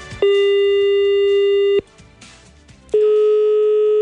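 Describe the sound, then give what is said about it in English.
A telephone busy signal sounds in loud, steady tones: one long beep, a short pause with faint background noise, then the tone returns. No one speaks over it. “Wow, the phone lines are jammy.”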